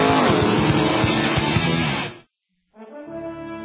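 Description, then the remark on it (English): Sports race car engines roar loudly for about two seconds, then cut off abruptly. After a brief silence, a steady, buzzing harmonic tone begins. “Sebring, the biggest sports car race of them all, March 18th through the 21st.”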